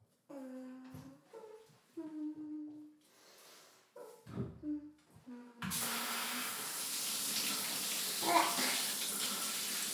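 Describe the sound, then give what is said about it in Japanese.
Voiced sounds fill the first half, then a steady rush of shower water starts and keeps running as soap suds are rinsed off a body. “ちょっと体に精子ついちゃったし、てかまだ全然泡まみれだし、体流すか。”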